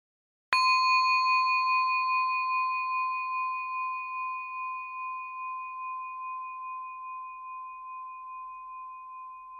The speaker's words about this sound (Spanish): Ahora escucha nuevamente la campana.